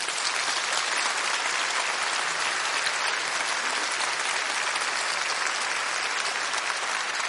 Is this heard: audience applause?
yes